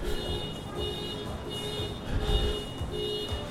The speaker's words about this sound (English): Why am I walking towards a car alarm during a fucking show just to annoy my fucking audience?